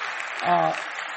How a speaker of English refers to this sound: So I think there are some scripture teachers here. Palakpakan po natin na. No, let us give them a round of applause.